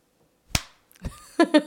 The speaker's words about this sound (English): Okay, give us a clap. With which hand? Both your hands. Loudly. One clap.